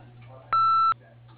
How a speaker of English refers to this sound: Please leave your name, number, and a brief message after the beep, and we'll return your call as soon as possible.